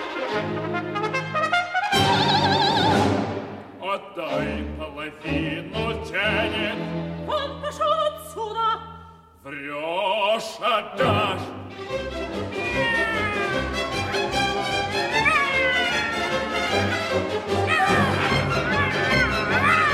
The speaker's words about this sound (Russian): Лиса и кот дерутся друг с другом.